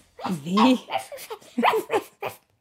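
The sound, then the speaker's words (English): A person playfully imitates a dog, letting out a series of short, voiced barks and yips in quick succession, fairly loud, with a laughing, bouncy quality. “You want to bark us out? Ruff. There it is.”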